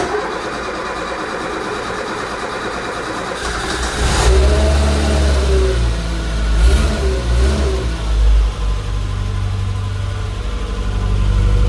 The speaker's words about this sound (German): Wir lassen jetzt hier den Motor an,